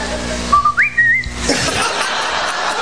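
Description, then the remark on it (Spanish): A person imitates the signal whistle a cheating lover gives beneath a balcony: a low note, a quick upward swoop, then a held higher note, followed by a wash of crowd noise and laughter. “¿Cómo silba el tramposo? Este silbido lo tienen que haber escuchado. Se pone debajo del balcón.”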